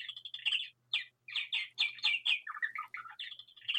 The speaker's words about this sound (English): We have a wonderful voice in the background there. It's a little bird saying it's, well, the clock is running fast.